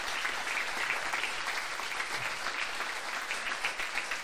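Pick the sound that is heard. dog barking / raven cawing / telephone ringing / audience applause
audience applause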